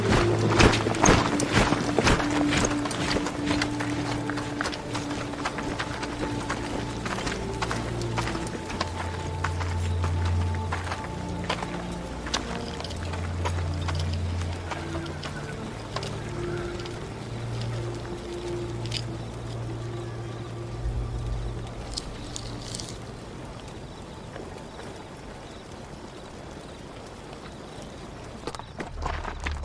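A busy outdoor ambience of a Seljuk army training camp in Isfahan, Iran: horse hooves clopping and many footsteps shuffling and running, densest at the start and thinning out, over a steady low rumble with no clear talking.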